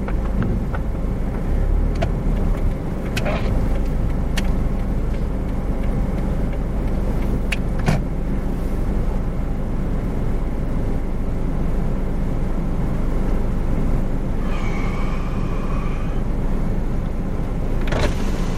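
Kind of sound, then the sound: vehicle, car interior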